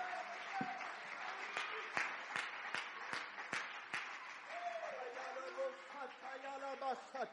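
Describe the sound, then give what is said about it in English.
A church audience claps and shouts together, a dense wash of crowd noise punctuated by a run of sharp, rhythmic claps, with raised voices calling out over it toward the end. “you believe that, clap your hands and shout unto God with the voice of triumph.”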